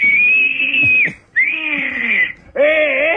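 A person whistles loudly and shrilly three times in a row, each blast held about a second with sliding pitch, like a jeering catcall. No one speaks.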